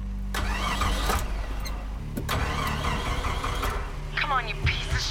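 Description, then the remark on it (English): A truck engine inside a shop cranks with repeated grinding bursts from the starter as the ignition key is turned, then catches and settles into a steady low rumble, fairly loud. “She puts her foot by the gas pedal. Ajax raises a finger. One. She puts the key in the ignition.”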